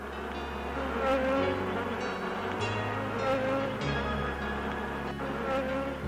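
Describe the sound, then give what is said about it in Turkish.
A dense, steady drone of many worker honeybees fanning their wings at a hive entrance to regulate the humidity and temperature of the air inside the hive, a continuous buzzing whose low hum shifts pitch slightly every few seconds, with no voices. “Dahası bu arılar bir de kovan girişinde kanat çırparak kovan içindeki havanın nemini ve ısısını ayarlarlar.”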